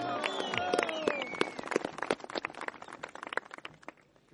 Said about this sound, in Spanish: Y quisiéramos recibirles con un fuerte aplauso al equipo técnico, jurídico, ambiental que viene presidido de la Contraloría General del Estado, presidido por el doctor Pablo Celid. Un fuerte aplauso.